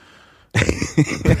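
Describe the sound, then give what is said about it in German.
After a brief quiet moment, someone loudly clears their throat, a gravelly rasp broken into about three rough pulses with no talking. “Oh, Räuspertaste kaputt.”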